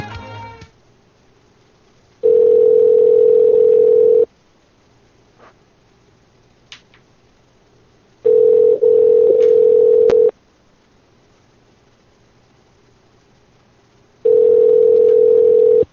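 A loud, steady telephone tone on the line, sounding in three long two-second bursts separated by about four seconds of near silence, as a call is being placed to Meyer Food Mart. No one speaks.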